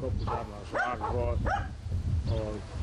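dogs barking

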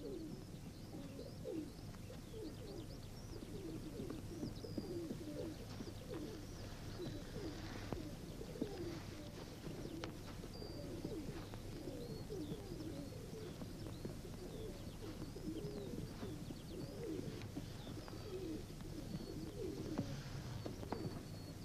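pigeons cooing

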